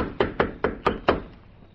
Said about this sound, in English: One of the two dismounted and proceeded on foot. He stepped aboard the small car and tapped on the door.